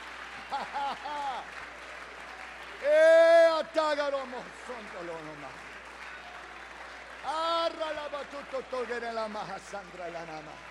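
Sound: audience clapping hands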